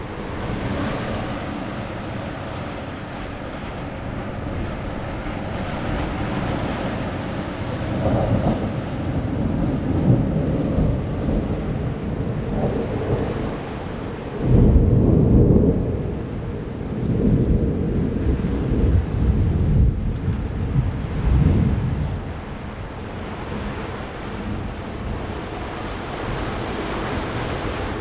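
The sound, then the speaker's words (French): Repeated deep thunder rumbles roll through a steady roar of warm, gusting wind during a dry thunderstorm, with the loudest crash near the middle and a few more swelling rumbles after it. No one speaks. “Orage sec, beaucoup de tonnerre, des rafales de vent plutôt chaud.”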